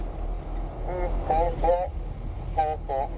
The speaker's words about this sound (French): Alors, sous nos pieds, on l'entend, quelques bulles